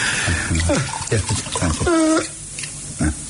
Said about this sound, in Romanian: stropește, mă rog, uite cu o leacă de apă, că nu mai pot să beau.